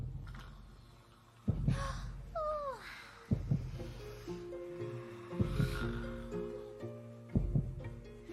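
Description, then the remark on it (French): A deep, booming giant's heartbeat pulses slowly, four heavy thumps about two seconds apart, over a low sustained drone with a brief rising and falling whine early on; no one speaks. “Épuisée, Anna s'endort, bercée par les battements de cœur du géant.”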